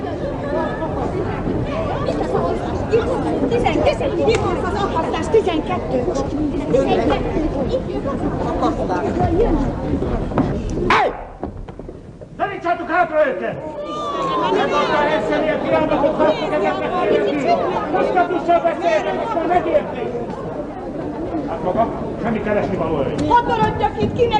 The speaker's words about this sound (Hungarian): A városka főterét látjuk középen az akasztófával. Az angol katonák az összesereglett tömeget igyekeznek hátrébb szorítani.